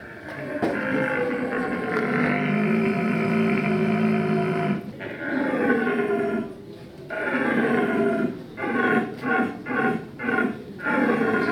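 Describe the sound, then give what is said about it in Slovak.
A contestant in a calling competition imitates the roar of an old stag seeking hinds in the rut: long, drawn-out bellowing groans that break into a rapid series of short, grunting pulses at the end. Loud, with no talk. “A teraz prichádza na scénu starý jeleň.”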